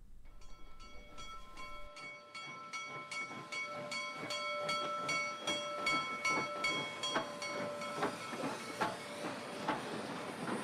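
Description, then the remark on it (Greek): A steam train hisses steadily at a railway station, with a sustained whining tone and a regular series of chuffing bursts that grow denser and louder. No voices. “το μόνο που ακούμε αντί για μουσική είναι ο ήχος ενός τρένου.”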